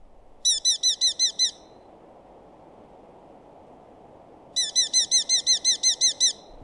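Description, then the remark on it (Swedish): A Eurasian hobby calls in two fast, shrill bursts of about six and nine sharp notes each, clear, over a steady low hiss of background noise. “Först lärkfalken, den gällaste och snabbaste av de tre.”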